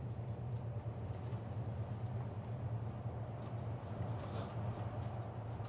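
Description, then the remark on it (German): Steady, droning rumble of a train in motion running alongside a noise barrier wall, a low hum with a constant wash of rolling noise and faint rattles, continuous and fairly loud throughout, with no one speaking. “Wir können so schön frei plaudern über Essen im Zug, weil wir hier an einer sehr hässlichen Lärmschutzwand entlangfahren.”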